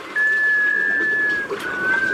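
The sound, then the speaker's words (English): A scoter sea duck's mysterious, musical wailing call: one long, steady whistled note followed by a shorter, slightly rising one, clear over a faint hiss of background noise. “An unmistakable clue to their presence? That mysterious, musical whale.”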